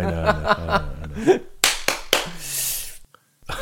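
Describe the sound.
A few sharp, loud hand claps ring out one after another, trailing into a brief hiss, following a moment of voiced laughter and talk.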